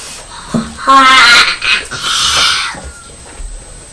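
Two cats, Purdy and Felix, a black and white cat, yowl back and forth through a fence in loud, wavering, drawn-out cries that rise and fall in pitch, overlapping at times, crying at each other but not fighting, with no talking.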